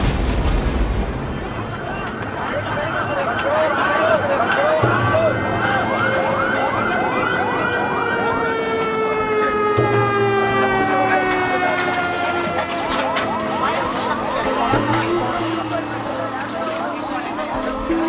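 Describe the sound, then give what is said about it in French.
Several emergency vehicle sirens wail at once, their pitches sweeping up and down in overlapping cycles, loud over a dense rumbling background of chaotic noise and voices, after an explosion that tore open a bus in Karachi. “S'ensuit une formidable explosion, des sirènes, des cris.”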